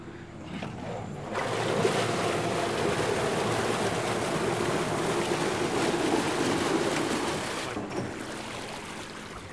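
A narrowboat's engine churns the water in a steady rumble as it reverses into its mooring from a canal turning pound, swelling after a quieter start and easing near the end, with wind noise and no voices.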